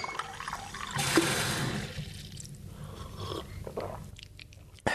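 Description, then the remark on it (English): Unboiled tap water from a bathroom sink runs briefly into a cup in Indonesia's new capital city under construction, followed by a few soft, wet gulps as someone drinks it down, ending with a sharp knock. No one speaks. “Now, drinking unboiled water from the tap is something I would not do in most Southeast Asian cities.”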